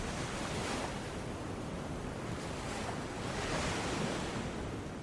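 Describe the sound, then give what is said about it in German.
Steady ocean surf washes onto the shore with a broad, continuous rush, swelling gently in two slow waves; a soft wind hiss sits underneath, and no one speaks. “Und höre das Rauschen der Wellen, wie sie sanft kommen und gehen.”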